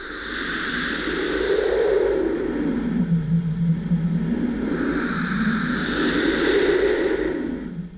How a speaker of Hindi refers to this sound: सनन सनन सन सनन सनन सन, गूंज उठा दुनिया का कन कन, पवन देव धुन गाता आया, साधु को स्वर उसका भाया।